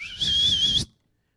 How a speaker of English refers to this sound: Then he whistled.